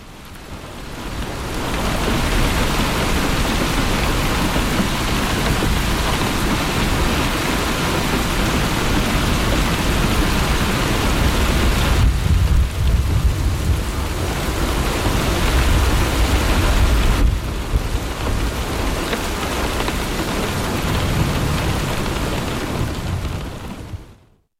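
Steady, dense rainfall hisses continuously, with a low rolling rumble of distant thunder swelling midway through before fading back under the downpour. No voices are present.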